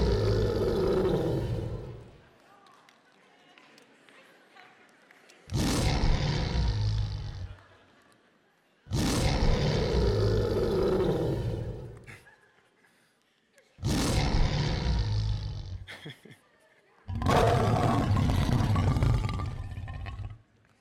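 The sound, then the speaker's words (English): Lions roaring in a series of five long, loud, deep roars, each lasting about two seconds with short gaps between them, powerful with no talking. “I got some real lions from the zoo, y'all.”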